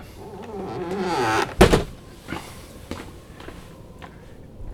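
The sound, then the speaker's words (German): A door swings with a drawn-out creak, then bangs shut with one solid thud, followed by a few soft, scattered footsteps. “Mach die Tür zu.”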